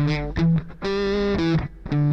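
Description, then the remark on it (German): A distorted electric rhythm guitar, played on the bridge pickup through a 2000s digital multi-effect unit, plays loud chord stabs in a choppy pattern: short hits, one longer sustained chord, then more short hits. The distortion drops when played softly. No voices are heard. “Die Verzerrung geht runter, wenn der leise spielt.”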